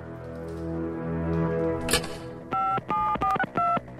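telephone number being dialed

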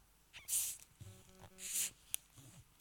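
sipping water

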